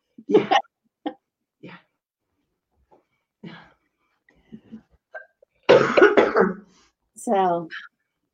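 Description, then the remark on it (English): Someone clears their throat in a few short, rough bursts spread across several seconds, then a louder, longer throat-clearing bout, ending with a brief voiced murmur. “Obviously, maybe there's something you need to say, clearing your throat.”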